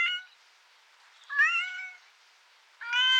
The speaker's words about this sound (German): Und das Mauzen einer ausgewachsenen Katze.